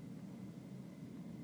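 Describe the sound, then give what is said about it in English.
An airplane drones steadily overhead, a faint, continuous low rumble with no voices, holding an even level throughout. “Hear the plane going overhead.”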